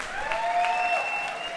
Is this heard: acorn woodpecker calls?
no